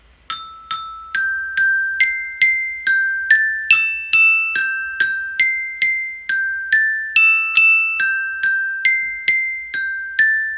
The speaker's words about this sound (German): Diese hohen Töne, die dazukommen, die musst du dir eigentlich tiefer vorstellen, aber das Glockenspiel war sehr limitiert. Also diese zwei hohen Töne, die sind eigentlich 5 Oktaven drunter statt drüber.